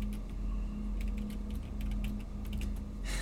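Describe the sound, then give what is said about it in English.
Soft, irregular clicks of typing on a keyboard, quick taps in uneven bursts over a steady low hum, ending with a brief hissy rustle. No one speaks. “I love that it's 2021 and we can just listen to someone else hit the keys typing up forbidden knowledge.”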